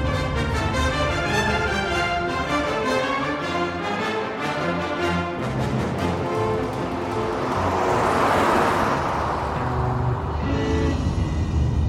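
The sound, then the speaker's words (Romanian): A car rolls slowly through traffic on the Queensborough Bridge, its engine a steady, droning hum throughout, with a brief rise of rushing road noise partway through. No one speaks. “Înaintez ca melcul. Mi-e teamă să nu lovesc mașina. Conduc mai încordat.”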